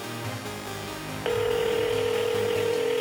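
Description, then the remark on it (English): After a second of low background murmur, a telephone line tone cuts in abruptly and holds steady and loud: a continuous electronic buzz-like ring signal heard through the phone as someone calls another person's phone. “Damn, you don't see me calling your motherfucking phone”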